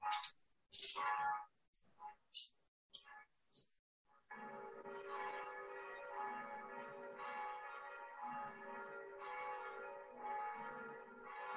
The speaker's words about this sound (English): Director Fellow, the bells are lovely. Could you mute yourself, though? Oh, yes. It's Italy.